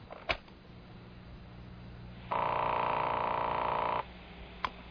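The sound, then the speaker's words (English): A single steady electronic telephone tone sounds for under two seconds, bracketed by sharp clicks before and after, like a handset being picked up and a line connecting, on a tape recording of a phone call. No one speaks. “10 days ago, I called her. Here's the call.”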